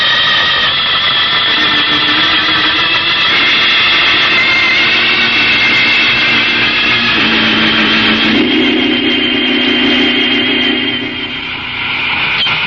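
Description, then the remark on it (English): A loud, steady rocket-engine roar from a jet boat blasts continuously, with whining tones that shift in pitch partway through and no voices over it. “You and I are blasting over there in our own jet boat.”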